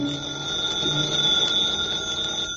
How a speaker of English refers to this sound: When I got back to the room, the phone was ringing.